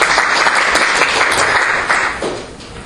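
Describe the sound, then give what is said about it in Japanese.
A crowd applauds steadily, a dense wash of many hands clapping at an even loudness that tapers off slightly toward the end. No one speaks over it. “では拍手お願いいたします。”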